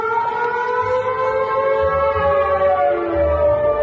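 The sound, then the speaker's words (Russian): An air raid siren in a Russian city blares loudly and steadily, its rich, wailing tone holding high and sliding slightly downward toward the end, with a low rumbling underneath and no voices. “Второй год в городах России звучит сирена.”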